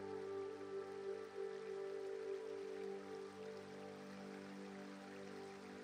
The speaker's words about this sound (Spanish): Y cuando estás trazando un nuevo sendero y cuando de nuevo vuelves a estar fundiéndote entre la naturaleza, descubres un bonito río.